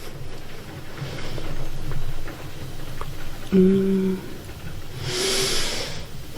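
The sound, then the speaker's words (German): Heavy rain pours in northern Germany in a steady, dense hiss with no one speaking, broken midway by a short humming tone and swelling into a brighter, louder rush near the end. “Hier fängt es gerade wieder an zu schütten.”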